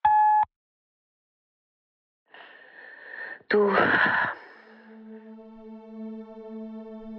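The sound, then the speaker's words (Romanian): A single loud, steady voicemail beep tone, after a Romanian prompt to record a message after the signal, sounds briefly at the very start, then stops. After a pause come breathy, noisy sounds and a sustained, humming tone. “Înregistrează un mesaj după semnalul sonor.”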